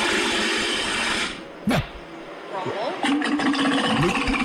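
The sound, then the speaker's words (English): A walrus named E.T. makes a loud, harsh sputtering rumble, then a sharp burst and a run of wavering, whistle-like tones that rise and fall in pitch, whistling on command. “Damn, that's a loud whistle.”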